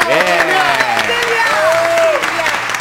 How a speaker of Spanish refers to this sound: ¡Fuerte el aplauso!